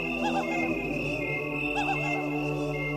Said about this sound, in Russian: А надо вам сказать, что к яблочному спасу, как начнет небо поворачивать с лета на осень, город наш имеет обыкновение подвергаться истинному нашествию цикад. Так что ночью и захочешь спать, да не уснешь.